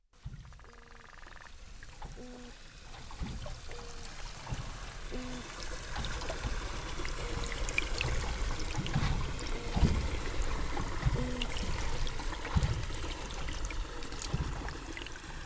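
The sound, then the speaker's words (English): Underwater calls of toadfish and cusk eels in the Bass River off Cape Cod: a string of short, low, tonal hoots and grunts repeating at irregular intervals over a steady crackling, bubbly hiss of water, with no voices. “It's filled with sounds and songs human ears weren't built to hear, like these toadfish and cusk eels in the Bass River off Cape Cod.”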